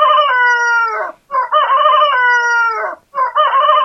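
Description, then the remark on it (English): A rooster crows loudly, several long, strained cock-a-doodle-doo calls following one another with brief gaps, with no talking underneath. “And Peter remembered the word of Jesus, which before the cock crows, thou shalt deny me thrice.”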